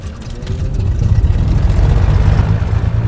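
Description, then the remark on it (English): An engine starts up after the ignition switch is turned and builds into a steady, deep rumbling drone that grows slightly louder over the first second, then holds at a constant low throb. No one speaks. “And just like a car, I turn the wheel, turn the ignition switch.”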